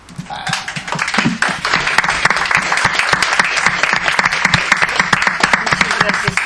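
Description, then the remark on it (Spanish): A crowd breaks into sustained applause, dense overlapping claps continuing steadily for several seconds at a strong, even level. “Un aplauso.”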